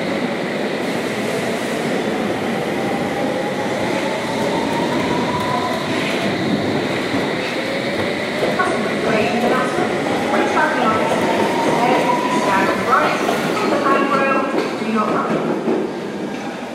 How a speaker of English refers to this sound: One is a westbound District Line service calling all stations to Alien Broadway. Please stand behind the yellow line and allow customers off the train before boarding.